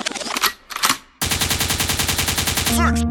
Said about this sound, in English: The gunshot means forward.